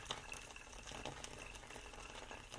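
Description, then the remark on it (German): Boiling water pours steadily into a large coffee filter sitting on an Alfi pump jug, a continuous splashing and trickling wash lasting a few seconds with no voices. “Und dafür muss man eben nicht gucken können, weil der Filter ist so groß, dass ich da einfach oben das kochende Wasser reinkippen kann.”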